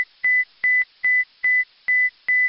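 An emergency alarm on the ISS (International Space Station) beeps in a steady, urgent rhythm: six loud, shrill electronic tones, each opening with a sharp click and repeating about every 0.4 seconds, with no voices.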